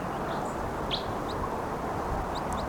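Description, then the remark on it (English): Several brief, high-pitched chirps of wild birds sound faintly and irregularly over a steady, loud wash of outdoor background noise. No one speaks. “And I see two orange birds right now.”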